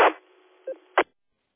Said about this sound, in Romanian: Auzi numai un bip care îți mai intră din când în când de la tine, știi? Deci un bip atât.